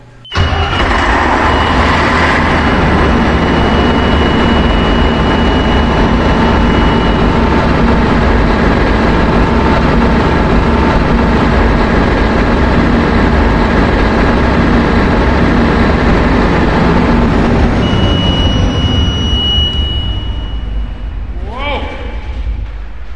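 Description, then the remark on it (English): A big turbocharged engine of roughly 400 horsepower, its block kept warm at about 100 degrees, cranks briefly, catches and settles into a loud, steady rumbling run with a thin high whine over it, the roar easing slightly near the end. “Now, you know that our listeners would love to hear you crank that thing.”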